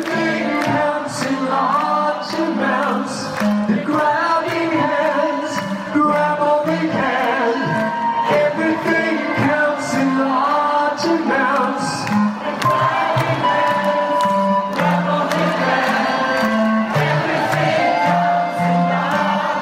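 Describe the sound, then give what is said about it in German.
A concert crowd at the Waldbühne in 2018 screams and cheers over loud live music, a dense, steady wall of voices and instruments that stays at full level for the whole stretch, with sharper shrieks rising now and then. “Ich glaube, im Hintergrund hört man mich sogar ein bisschen mitkreischen.”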